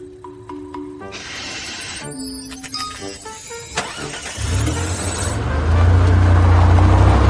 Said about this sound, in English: I'm starting the car. What do you think I'm doing?